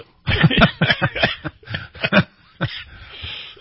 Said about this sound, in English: that made me cough.